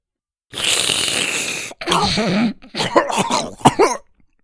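A voice imitates a long, harsh, painful snort, then a run of choking coughs ending in a sharp sneeze, as of someone coughing and sneezing soup out, all loud with no other sound around them.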